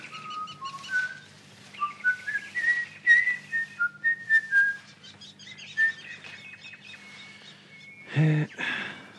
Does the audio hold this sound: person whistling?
yes